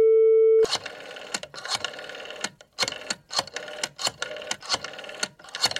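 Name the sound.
telephone line tone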